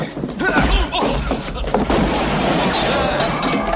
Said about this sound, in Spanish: Es una escena bastante flipante, porque el tipo este que viene de parte de Roosevelt no solo es un espía nazi, sino que se carga a la doctora, le mete dos tiros al Capitán América, se carga a otros dos